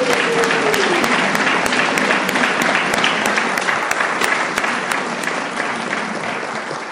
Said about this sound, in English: Please give her another round of applause.